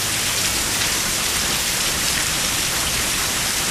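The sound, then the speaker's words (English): Hail pelts a hard surface in a dense, unbroken clatter, a steady hiss of countless small impacts that stays loud throughout, with no voices present. “See, that's what I thought sounded like hail.”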